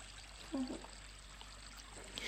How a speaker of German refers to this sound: Und es ist sogar das Wasser vom Brunnen zu hören.